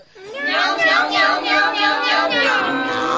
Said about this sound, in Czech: I ten motor teď nějak líp mňouká.